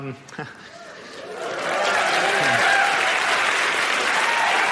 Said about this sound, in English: That's going to help me to make it through shooting Duck Dynasty. I'm going to remember that clap